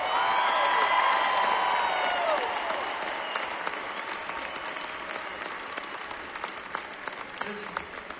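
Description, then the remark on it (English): An audience in Kentucky bursts into sustained applause for Tony Conway, dense and steady clapping with a few whistles and cheers near the start, then gradually softening over about eight seconds. “Y'all give Tony Conway a big round of applause.”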